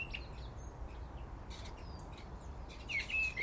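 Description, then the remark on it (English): A songbird, likely a thrush, gives scattered thin, high whistles and short chirps over a steady low rumble, the notes a little louder near the end. No one speaks. “Strange call, that's a thrush. I think. Or a starling mimicking.”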